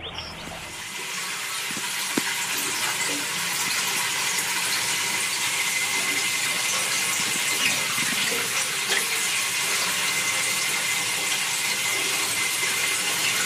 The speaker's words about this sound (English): that's the sound that the furnace makes as it's burning the oil